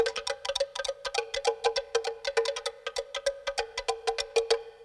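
A turtle shell is struck with deer antlers in a rapid, steady stream of hollow, ringing knocks, fairly loud, with no voices.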